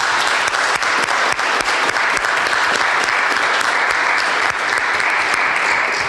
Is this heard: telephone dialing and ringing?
no